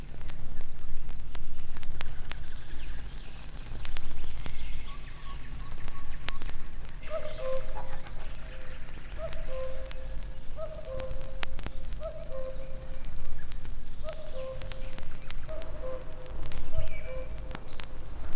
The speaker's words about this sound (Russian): Это песня камышовки. Птица очень осторожна, и увидеть ее нелегко. Зовут ее речным сверчком.